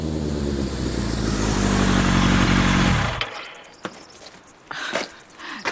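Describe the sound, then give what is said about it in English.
A loud motorcycle engine idles and rumbles for about three seconds as it arrives outside a door, then abruptly cuts off, leaving quiet ambience with a few faint clicks and rustles. “The following day, the captain turned up outside the door on a motorcycle.”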